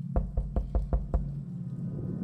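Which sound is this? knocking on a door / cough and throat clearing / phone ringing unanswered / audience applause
knocking on a door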